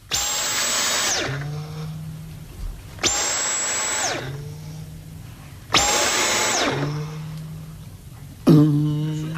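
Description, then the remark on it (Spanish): A Dyson vacuum cleaner motor whirs up to a loud, high whine, then spins down into a low hum, repeated four times in quick succession with short pauses between bursts. “Vámonos a Dyson. El sonidito.”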